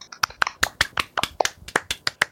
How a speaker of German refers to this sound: Applaus.